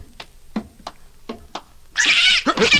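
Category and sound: animal, cat caterwauling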